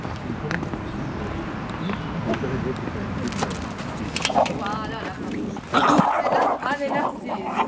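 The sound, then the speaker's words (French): A dog behind a gate barks repeatedly some way further along, short sharp yaps coming in uneven bursts over a busy outdoor background, with people talking. “Là, vous allez voir plus loin, il y a un chien qui aboie.”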